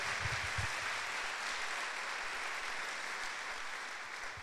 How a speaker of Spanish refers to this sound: Le demos un fuerte aplauso, que se escuche en todo Yajalón, y le demos la gloria y la honra a quien se la merece.